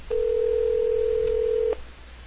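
A single steady ringback tone on a telephone line, one long unbroken beep of about one and a half seconds, followed by quiet line hiss. No one speaks.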